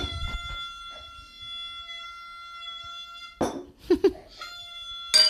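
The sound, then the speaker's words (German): Glasses clink together in a toast, leaving a clear, high ringing tone that hangs steadily for several seconds before fading under a few louder rustling bursts. “Und in diesem Sinne stoße ich mit dir an”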